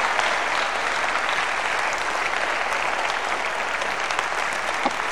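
A large crowd claps steadily and densely for several seconds in applause for the Savior, a sustained wash of applause at even loudness with no speech over it.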